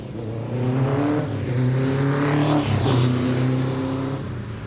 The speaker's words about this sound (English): I do love the sound of motorbikes.